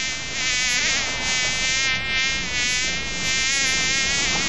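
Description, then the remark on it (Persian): A steady insect buzz drones on without pause, a fly's high whine wavering slightly in pitch and loudness throughout. No voices are heard. “نام ما مگس است. ما بچه گو مگس نواسه خر مگس هستم.”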